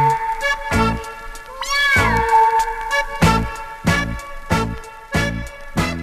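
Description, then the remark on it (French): A single drawn-out cat meow, shouted in a dance song about little cats, rises and falls over bouncy, steady music with a strong thumping beat, and the meow sits clearly in front of the backing track. “Et retournez-vous tout en criant miaou.”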